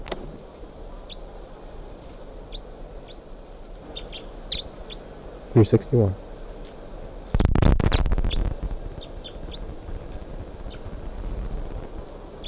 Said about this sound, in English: And all of a sudden, the bird started calling, and including bird 361, the new type 5 female. And I'm trying to tape record her right now.